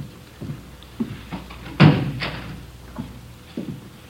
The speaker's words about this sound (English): Would you close the door, Friday? Yeah, sure.